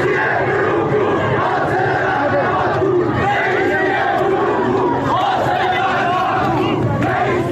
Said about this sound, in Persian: در دسپول، ایزه و اهواز در شب‌های گذشته معترضان اینچنین علیه مقام‌های جمهوری اسلامی شعار دادند.